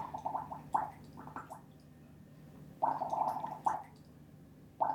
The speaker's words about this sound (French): Vous faites des bulles. Elle fait des bulles. Puis elle fait des bulles. Dire qu'on les dispute, les enfants, quand ils font ça.